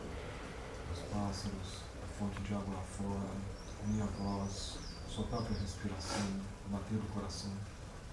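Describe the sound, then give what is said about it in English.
Birds chirp and twitter in scattered bursts, with quick high calls coming and going over a steady low murmur of voices in the background. “The birds, the fountain, my voice, your own breathing, your own heartbeat.”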